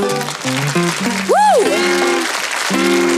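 An audience applauds steadily with a dense crackle of clapping throughout, while musical notes play over it and a voice or instrument swoops up and back down in pitch.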